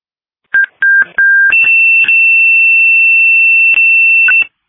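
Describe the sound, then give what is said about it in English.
A Sumner Ambulance dispatch pager alert, the second page for a call in Chipola: a short series of steady electronic tones, a lower pitch stepping up to a sustained higher tone, interrupted by clicks and bursts of static, with no voices. “Sumner Ambulance, this is your second page.”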